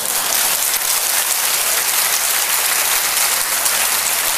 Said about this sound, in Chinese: 有冇人怨过啊？有啊，俾啲掌声话有嗰、那个。